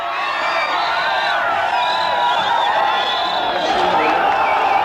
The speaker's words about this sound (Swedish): Men judiska bosättare på Västbanken och runt Gaza visade idag sin oförsonlighet mot det palestinska självstyret. Demonstranter skrek ut sin vrede mot att Arafat mottas som en statsman.